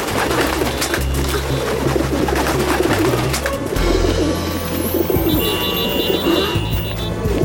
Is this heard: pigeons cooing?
yes